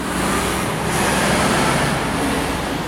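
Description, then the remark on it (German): A convoy of lorries roars through the village of Gilserberg on the B3 road, a steady, loud wash of engine and tyre noise that fills the whole stretch without letting up, with no voices. “Eine ganze LKW-Kolonne rauscht durch den Ort.”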